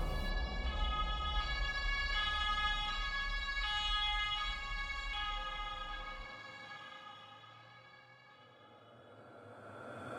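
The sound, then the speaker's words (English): Emergency vehicle sirens wail in a steady, alternating pitch, fairly loud, over a low traffic rumble that drops away partway through while the sirens keep sounding. “I concentrated on the texture of the hat underneath my fingers, then on my breath, then the sirens.”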